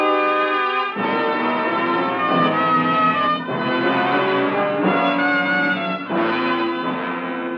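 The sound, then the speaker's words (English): Distant clocks strike eleven at night in a slow, uneven sequence of resonant tolls whose rich, ringing tones linger and overlap into one steady hum, with no voices. “I returned the next night as the distant clocks were striking 11.”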